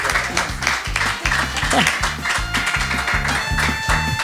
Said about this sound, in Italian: Tanto se vogliamo fare un applauso per questi splendidi musicisti. Grazie.